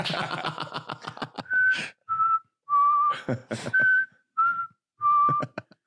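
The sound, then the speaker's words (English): A person imitates a recorder melody: after a burst of rapid fluttering clicks, a few clear, steady, mid-pitched notes sound one after another with short pauses between them, and no talking. “The curtain just playing perfect recorder sounds.”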